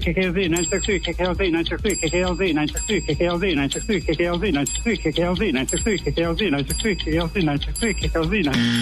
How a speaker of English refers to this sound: I couldn't hit the bell fast enough.